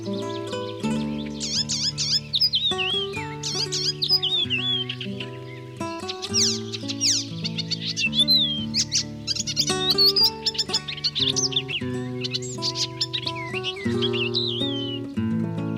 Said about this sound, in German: Das war der Gelbspötter.